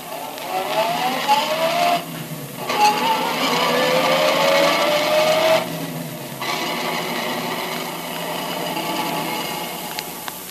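A car engine revs and pulls away, its pitch climbing steadily and dipping twice as it shifts gears, staying loud with no voices: detective Tracy's car driving to Jess Trueheart's home.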